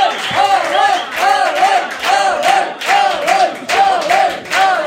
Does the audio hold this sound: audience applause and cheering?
yes